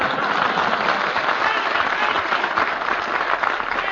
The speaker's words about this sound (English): I'm thanking you, ladies and gentlemen, for your applause in advance.